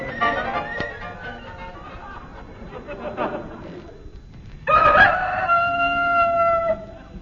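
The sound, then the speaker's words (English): Soft, busy clucking and rustling give way to one loud cockerel crow, a drawn-out call lasting about two seconds before cutting off. “We included that recording of a cockerel for people who like that sort of thing.”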